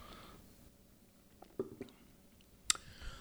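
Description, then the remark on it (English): Someone quietly sips a rum daiquiri cocktail: soft slurping and swallowing sounds, a few small wet mouth clicks, then one sharp tick, all over a faint, hushed background with no talking. “Well, I'm going to have a sip of your daiquiri now.”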